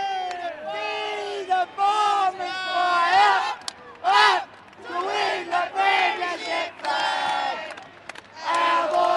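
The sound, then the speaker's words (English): A football cheer squad sings together in the final five minutes of an Essendon versus Carlton game, a loud mass of voices chanting drawn-out melodic lines with brief pauses between phrases, steady and rousing throughout. “With 5 minutes to go in the game, the cheer squad relax and begin singing.”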